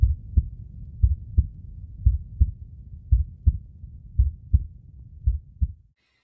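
A steady heartbeat thumps in low, muffled pairs, lub-dub, about ten beats at a relaxed even pace over a soft rumbling background, then stops abruptly.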